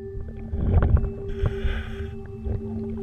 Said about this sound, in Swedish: En dykare utrustad med kamera skannar av botten. Vi hör ljudet från inspelningen.